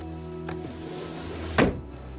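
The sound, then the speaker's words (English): A drawer is pushed shut after a crown is put back into it, ending in one short, solid thump, with a faint click just before it. A steady low hum runs underneath throughout. “She takes it off, putting it back into the drawer she took it from.”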